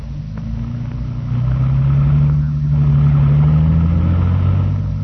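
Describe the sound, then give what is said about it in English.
A policeman's car engine revs and accelerates as the vehicle pulls away, its low rumble rising steadily in pitch and loudness before settling into a sustained drone. No one speaks. “Come on, let's go in your car. I leave mine here.”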